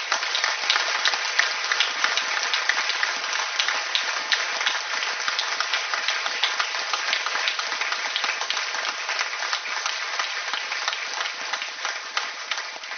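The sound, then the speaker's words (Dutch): Council members and attendees applaud steadily for about thirteen seconds, a dense, even patter of many hands clapping at once, with no voices breaking through. “En ik denk eerlijk gezegd dat ik aan u, dames en heren, leden van de Raad en aanwezigen niets te veel vraag om met een applaus nog eens uit te drukken hoe wezenlijk belangrijk wij die rol hebben gevonden.”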